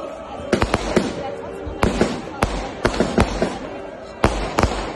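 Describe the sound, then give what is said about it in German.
Fireworks crackle and bang in an irregular series of sharp, loud bursts, some doubled, over a steady murmur of background noise that may include voices. “Bisschen Feuerwerk gab es auch.”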